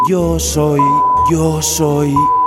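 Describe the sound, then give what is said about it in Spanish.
A man trying to say his own name speaks in a sing-song cadence while a steady, thin censor bleep tone cuts in twice, each lasting about half a second, masking parts of his words. “Yo soy un pitido.”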